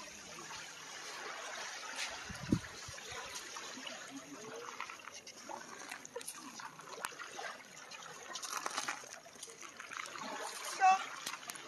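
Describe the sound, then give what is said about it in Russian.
Footsteps wade and splash through shallow water on a beach, a continuous sloshing with a few louder splashes, while faint voices murmur in the background. “И тут немножко воды.”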